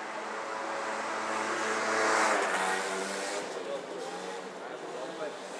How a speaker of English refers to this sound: Oh, now it sounds like there's a motorbike coming. Let's tuck in, I think, if we can.